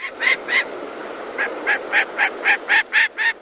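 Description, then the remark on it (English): A gyrfalcon, the largest falcon in North America, gives a harsh, repeated cackling call, about a dozen rasping notes in a steady, slightly quickening series, loud with no talking. “It's gerfalcon. It's the biggest falcon in North America.”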